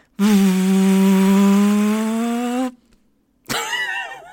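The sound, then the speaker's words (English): Someone blows air through puffed cheeks to imitate a film camera rewinding: a loud, steady, buzzy drone rising slightly in pitch, a brief pause, then a shorter, wobbling burst. “That's me blowing air through my cheeks.”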